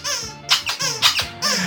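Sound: squeaky toy squeaking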